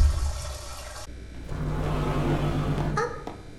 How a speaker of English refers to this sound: When the water's rising. No. Yes, it will rise. It will fill the tank.